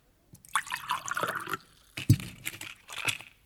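Liquid is poured in a splashy trickle for about a second, followed by a dull knock and a few shorter pours and drips as it is diluted with water; no one speaks.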